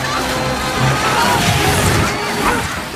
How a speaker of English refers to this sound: Terrified guests flee as the chopper's nose plows through the chairs, smashing them to smithereens.